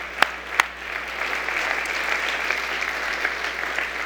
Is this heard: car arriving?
no